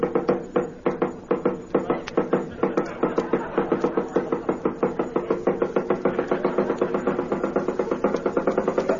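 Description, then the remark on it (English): A long, rapid series of sharp knocks repeats steadily for several seconds, fairly loud, with no voices over it. “Somebody knock.”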